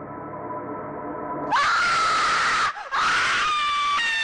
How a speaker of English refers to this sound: Número 3. Sprunky Scream.